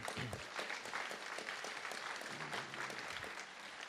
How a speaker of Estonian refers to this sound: anname aplausi